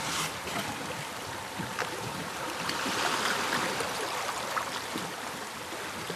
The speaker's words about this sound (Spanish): ¡Al agua los remos!